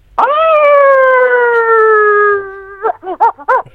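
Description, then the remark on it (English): A person imitates a wolf howl: one long, loud, steady wail that slowly drops in pitch, followed by a few quick, choppy yelps at the end. “Can I just hear you howl, please”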